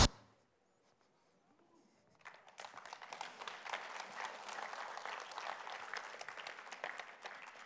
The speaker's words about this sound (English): Why are you clapping? Because that's good, isn't it?